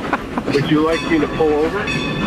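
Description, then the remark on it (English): A car rolls over a large bridge, giving a steady, loud roar of road noise with shifting whining hums layered on top, almost like a passing train. “I'm driving right now. Sounds like you're in a train. Yeah. Please, driving over a big bridge.”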